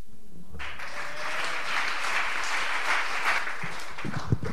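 A crowd breaks into sustained applause after a brief quiet start, a dense, steady wash of many hands clapping at once that holds for several seconds, with a few louder thumps near the end.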